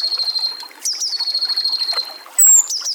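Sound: tit song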